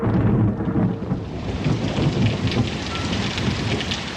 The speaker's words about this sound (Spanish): Una tarde, obscureció el cielo y comenzó a caer una lluvia torrencial. Se oían truenos y se miraba el resplandor de los rayos.